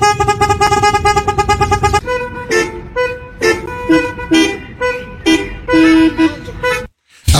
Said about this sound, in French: Ouais, on utilise beaucoup le klaxon à Paris. Ce serait un peu mélodique comme ça.